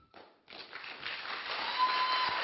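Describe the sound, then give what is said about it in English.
A church audience bursts into applause for God during worship: a few scattered claps at first, then a dense crowd of clapping swells in and keeps rising to a loud, steady roar. No one speaks over it. “Clap to the living God.”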